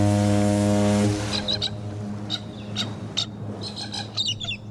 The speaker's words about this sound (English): Hari, a beautiful rose-breasted cockatoo, or gala as they are best known, set off unseen on a cruise ship from Brisbane, Australia. The colorful 15-inch long bird was discovered 1,400 miles later as the ship neared New Zealand.